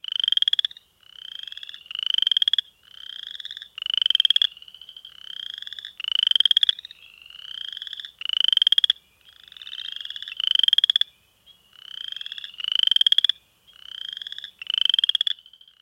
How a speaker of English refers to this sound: If you guessed a frog, you're right. If you guessed a chorus frog, you're brilliant. And if you guessed an upland chorus frog, you're a pro. This small frog is found in various wet habitats in all regions of Virginia. The males make this mating call